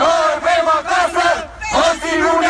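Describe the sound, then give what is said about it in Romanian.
A large crowd of Romanian protesters chanting in unison at an evening demonstration, loud rhythmic shouted syllables ('mai bine huligan decât dictator') repeating in bursts with a brief pause midway, voices blending into a dense roar of protest. “Manifestații au avut loc aseară în mai multe orașe din țară.”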